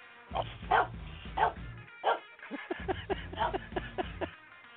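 dog barking

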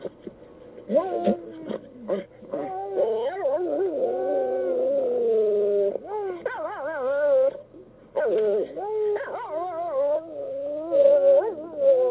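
dog howling

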